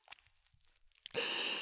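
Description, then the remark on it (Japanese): Shampoo being lathered between hands: a few faint wet clicks and squelches, then a sudden loud, dense squishing, frothy noise that continues steadily to the end. “よーく泡立てた方がいいんだよね。”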